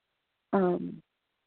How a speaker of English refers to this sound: When I'm on this program, I don't want to belch or do anything like that, but I have to.